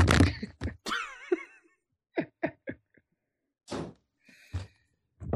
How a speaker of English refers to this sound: Let me just close the door. 1 second. I'll be right back.